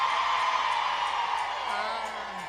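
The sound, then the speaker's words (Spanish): A crowd of women in a church audience shouts a battle cry together, a loud, sustained collective cry and dense wall of voices that holds steady for a couple of seconds before tapering slightly, with a male voice faintly underneath. “Pongo a gritar a las Débora, a ver cómo se oyen las Débora.”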